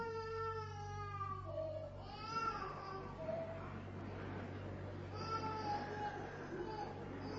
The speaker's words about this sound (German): Es ist wunderbar, wie sich in unserem Herz alles bewegt, wenn wir ein Baby schreien hören. So auch jetzt.